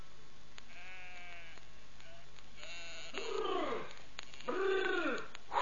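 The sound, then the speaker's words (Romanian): Several sheep bleat in wavering, overlapping cries as a flock returns from grazing, starting with fainter calls and then two loud bleats near the end, with no talking. “Păcală, care tocmai se întoarce cu turma de la păscut”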